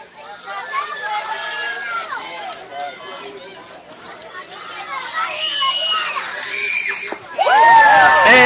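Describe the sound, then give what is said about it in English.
A Washington County crowd at a baseball game murmurs and chatters with scattered shouting voices, then erupts into a sudden loud, full cheer in the final second, as the fans think a strike has ended the inning against Columbus. “And that one, the Washington County crowd cheers as they thought they got the strike that they needed to get out of the inning, but Lily Landaway put that one too far inside, and that will be a fourth ball, giving the walk to Columbus.”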